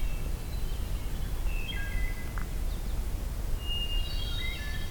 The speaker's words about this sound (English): I think there's a distant wood thrush here.